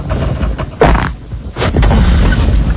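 A loud, drawn-out fart with a low, raspy rumble, broken by a few sputtering bursts before trailing on steadily, with no voices.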